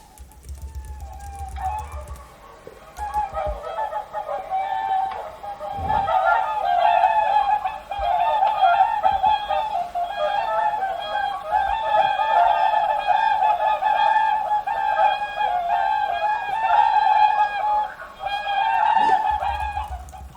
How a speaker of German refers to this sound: Ja, das ist so ein super schönes Geräusch, finde ich. Genau, die Singschwäne.